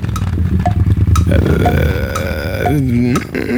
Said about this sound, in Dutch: Is het een tour? Het is een tourmotor. Is het een BMW? Het is inderdaad een BMW. En een 1250 GS.